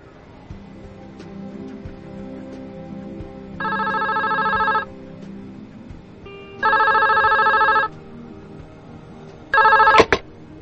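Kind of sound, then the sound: signal or alarm, telephone ringing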